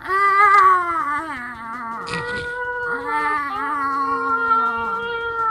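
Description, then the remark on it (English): A person imitates a cat in heat with a long, wavering, loud yowl that rises and falls continuously for several seconds, with a brief breathy break partway through. “Maybe if it's like the cat in heat type of meow, like”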